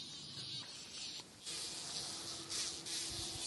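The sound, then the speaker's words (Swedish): Bumblebees tagged with small radio transmitters for research on seed-treatment chemicals in oilseed rape buzz steadily, a continuous droning hum that swells and dips a few times over several seconds, with no voices. “Ja, det där surrande ljudet det tillhör alltså några av de humlor som blev taggade med små radiosändare för att ge forskarna information om de påverkas av betningsmedel i raps.”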